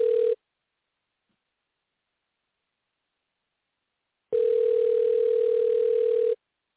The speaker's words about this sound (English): I'm about to call you. So just pick up your phone.